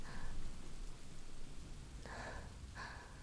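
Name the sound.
rain with distant thunder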